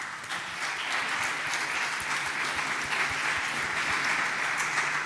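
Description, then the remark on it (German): Steady audience applause at an event, the audience applauding itself, fills the whole stretch: a dense crackle of many hands clapping at an even, sustained level without any talking. “Aber das Wichtigste, und dafür will ich einen Applaus hören, ist das Publikum.”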